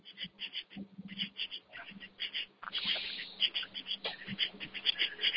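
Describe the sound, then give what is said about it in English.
Crickets chirp steadily outdoors in a rapid, pulsing high-pitched rhythm that continues throughout, moderately loud, over a faint low rumble of background noise. “I got crickets out here.”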